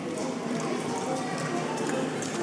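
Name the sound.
donkey hooves clip-clopping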